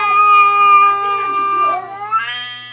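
Several cats yowl loudly and continuously in overlapping, wavering cries, a harsh caterwauling chorus that rises in pitch toward the end.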